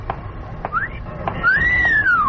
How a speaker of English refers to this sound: I was only whistling for my dog.